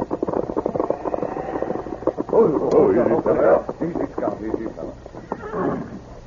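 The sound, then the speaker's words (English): A branded, saddled horse, its saddle covered with snow, whinnies loudly with a shrill, wavering neigh partway through, while hooves clip-clop steadily and a voice murmurs underneath. “This horse carries the Circle C brand, Tonto.”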